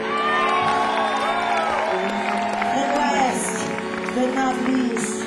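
A crowd cheers and applauds steadily as a band's bass guitarist is introduced, with whoops and shouts rising over a dense wash of clapping that stays loud throughout.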